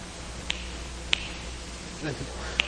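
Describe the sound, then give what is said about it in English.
Three sharp, bright finger snaps, spaced irregularly over a few seconds against a low background hum, with a faint murmur of voice near the end. “64 karmic imprints per finger snap.”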